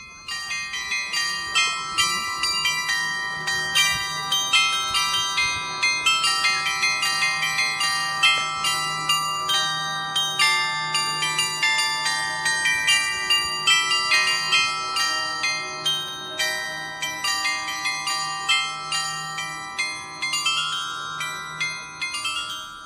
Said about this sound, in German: Hier sieht man Wohn- und Geschäftshäuser aus dem 19. Jahrhundert, wie das Haus der Unternehmensfamilie Brose, an dessen Fassade viermal täglich ein Glockenspiel erklingt.